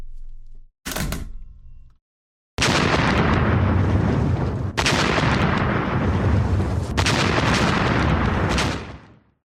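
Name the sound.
artillery fire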